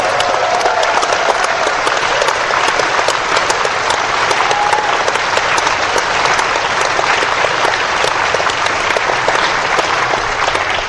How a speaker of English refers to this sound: But nonetheless, we are very, very grateful to our many stage performers who agreed to come here to help entertain all of you this weekend. Let's have one more round of applause for them in the magnificent performance.